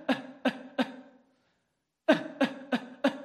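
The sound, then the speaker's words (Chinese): Seven short, sharp, clear coughs in two bursts: three quick evenly spaced coughs, a brief pause, then four more in the same steady rhythm, with nobody talking, demonstrating how the lower abdomen (dantian) exerts force instantly to push the breath out. “当你在咳嗽的时候，你的丹田会瞬间的发力，把气息推出来，就像这样。”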